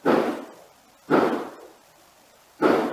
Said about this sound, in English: You can hear the gunshots. We had them analyzed by a forensic team, and they were definitely gunshots. So that was at 9:57 p.m. on the night that she goes missing.